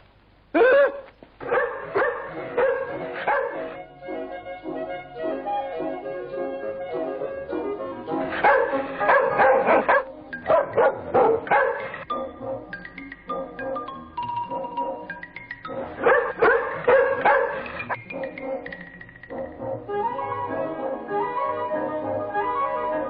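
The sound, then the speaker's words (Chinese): A trained circus dog named Huzi barks excitedly as it is set on a man and chases him, in repeated clustered bursts mixing sharp barks with high yips and brief whimpers, loud, continuing for about twenty seconds with no talking. “虽说杂技团的狗都是久经训练，不会轻易咬人的”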